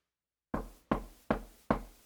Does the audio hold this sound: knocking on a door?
yes